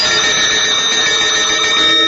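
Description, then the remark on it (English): Bells ring continuously and loudly, a steady shimmering wash of bright, high metallic tones that sustains without pause for about two seconds, with no voices. “Hey, you hear these bells, don't you?”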